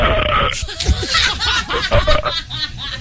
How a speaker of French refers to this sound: Inscrivez-vous à Je sais roter, c'est moche, mais j'ai envie de le faire à la radio.